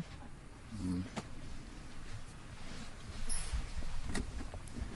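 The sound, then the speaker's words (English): A heavy door creaks open as someone enters, with a few dull knocks and thuds, over a steady background hiss with muffled room noise. “It's a heavy door.”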